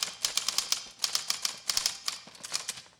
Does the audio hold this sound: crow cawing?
no